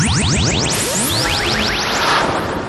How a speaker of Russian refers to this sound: Туманности больше всего. Сплошные помехи, бесконечная толкотня.